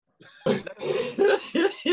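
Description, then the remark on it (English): A fit of harsh coughing: about five loud, raspy coughs in quick succession with barely a pause between them, and no talking. “Does AIDS make you cough?”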